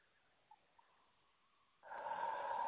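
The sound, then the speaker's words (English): A person doing a breathing exercise takes a quiet, drawn-out breath in followed by a louder, rushing breath out, with no talking. “Okay, that was one breath. I was breathing in, and then I was breathing out.”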